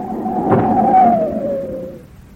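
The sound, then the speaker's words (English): A car hits a man on the road: a sudden dull thud, then a long, steady tire screech that slowly slides lower in pitch and fades. No one speaks. “We hit something. Yes, it was a man.”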